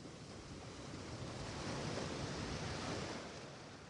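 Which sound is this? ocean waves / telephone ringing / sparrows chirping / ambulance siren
ocean waves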